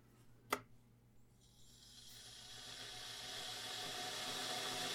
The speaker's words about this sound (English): Okay, put the water on.